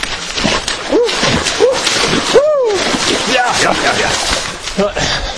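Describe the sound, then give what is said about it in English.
Steady, rhythmic splashing of feet as a person runs through shallow water along a beach, fairly loud, with brief voiced sounds from the runner rising over the splashes. “And I'm able to run on the beach, but even in the water, you know, the getting used to it.”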